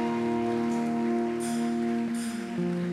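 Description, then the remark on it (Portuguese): A church audience applauds God at an evening service in a steady, dense wash of clapping over sustained keyboard chords, with brief swells of brighter clapping partway through. No voices are heard. “Você pode aplaudir a Ele nessa noite, em nome de Jesus.”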